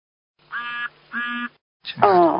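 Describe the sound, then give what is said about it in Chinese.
A duck quacks twice, two evenly spaced nasal honks of similar length and loudness, then a person starts speaking right after. “你们家养鸭子的？”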